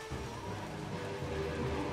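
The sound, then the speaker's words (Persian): Steady rainfall hisses evenly throughout, a dense, continuous wash of drops at moderate volume with no voices or other distinct sounds standing out. “من پاییزو خیلی دوست دارم بتمن به خاطر بارش باران.”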